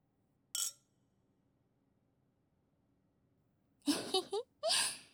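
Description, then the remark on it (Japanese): A single bright clink of wine glasses touching in a toast with wine, short, followed by a quiet pause and then a few breathy vocal sighs. “人との乾杯って何回やっても楽しいね。”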